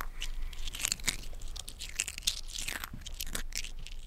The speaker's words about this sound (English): We eat a crunchy salad.